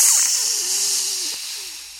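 A newborn water snake's hiss: one steady, airy, high-pitched rush lasting about two seconds, tapering off slightly at the end, with a faint wavering tone beneath it and no talking.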